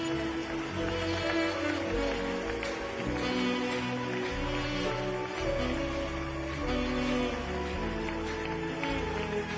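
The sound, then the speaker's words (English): The Koinonia church audience claps continuously in a dense, steady patter that holds at an even loudness throughout, with sustained musical tones droning underneath. “Keep clapping, Koinonia.”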